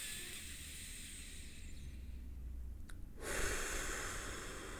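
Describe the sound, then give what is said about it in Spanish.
Quiet, steady breathing through the nose, then a longer, louder airy breath rushes in about two-thirds through. No one speaks. “Respiren por el nariz tranquilo, o sea, es como...”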